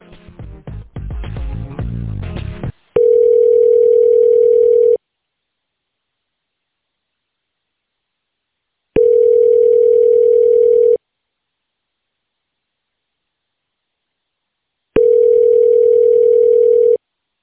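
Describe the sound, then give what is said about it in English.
A phone line rings out unanswered: after a brief burst of dialing noise, three steady electronic ringback tones sound, each about two seconds long with four-second silences between them. “No, he's not going to pick up. Let me see if I can call up on her phone.”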